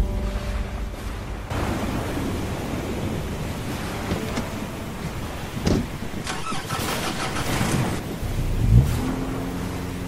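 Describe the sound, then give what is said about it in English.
A car engine turns over and starts up, settling into a steady rumbling idle with a brief rev toward the end; no one speaks. “I pulled my coat closed tightly and slowly made for the car.”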